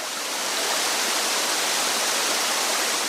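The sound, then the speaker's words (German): The 20-metre waterfall in the Døndal rift valley on Bornholm, Denmark's largest, at the end of a stream between rock walls, rushes in a steady, dense, loud roar of falling water, with no voices and no breaks for the full few seconds. “Gut einen Kilometer schlängelt sich ein Wanderweg den Bach entlang, rechts und links Felswände bis zum Wasserfall.”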